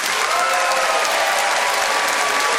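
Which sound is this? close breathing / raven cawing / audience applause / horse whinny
audience applause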